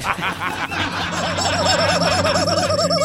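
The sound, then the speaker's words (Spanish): A rooster lets out a loud, strangled squawk as its neck is squeezed, rising into a shaky, wobbling cry that warbles continuously for a few seconds over a low steady hum. “Yo le apreto el cogote al gallo.”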